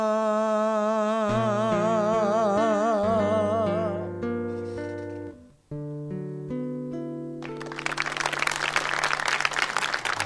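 A song closes with a vibrato vocal line and sustained orchestral chords, then loud, dense audience applause bursts in over the final held chord and carries through to the end.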